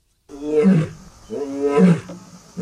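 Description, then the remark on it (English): Two deep, rumbling African lion roars follow one another, a full-throated classic roar and a slightly softer intermediary roar, each swelling and then fading, loud with a harsh, throaty texture and no voices. “According to researchers at the University of Exeter, this big cat is demonstrating two different types of roar.”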